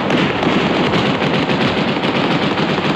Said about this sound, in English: The PLO did not go softly from Beirut today. All of West Beirut erupted in a fanfare of gunfire as the first PLO fighters made their way to the port.